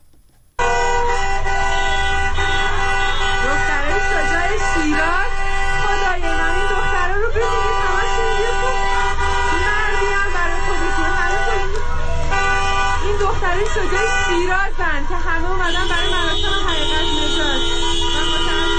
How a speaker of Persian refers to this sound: اما خیابان‌های اطراف از سوی مردم بسته شد و خودروها با بوق‌های ممتد اعتراض می‌کردند و مردم هم در خیابان‌ها راه می‌رفتند و شعار می‌دادند.